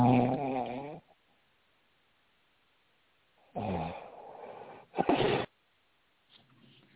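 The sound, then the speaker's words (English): Loud snoring: a drawn-out rumbling snore, a long pause, then two more snorts in quick succession and a faint fourth breath trailing off at the end. “Did somebody fall asleep on the radio? Is everybody awake?”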